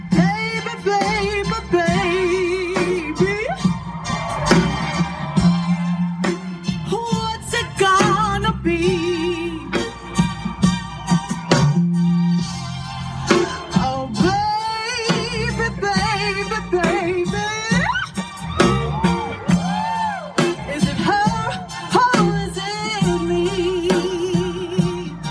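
A woman sings a slow, soulful ballad live over band accompaniment, her voice loud and sustained with wavering vibrato on long held notes, rising and falling throughout.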